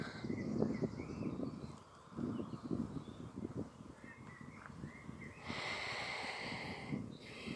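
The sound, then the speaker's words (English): A person's breathing with soft snorting, sniffing breaths and a longer airy exhale near the end, set against quiet outdoor ambience with a gentle breeze, faint birdsong and rustling. “I can hear my own breath.”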